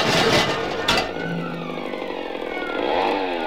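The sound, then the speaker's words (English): A motor scooter engine runs loud, a buzzing, revving drone that holds steady throughout, with a brief clattering burst early on and a rising whine near the end. “There's a motor scooter, Ollie!”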